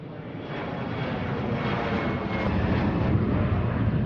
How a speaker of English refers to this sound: Planes land and take off at the Douala International Airport in Cameroon, one of Central Africa's busiest air travel hubs, with about 17 incoming and outgoing flights per day.